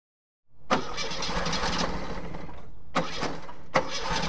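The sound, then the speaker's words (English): A car engine cranks repeatedly without catching: a steady grinding churn broken by three sharp bursts as the starter is tried again and again. No voices. “The car won't start.”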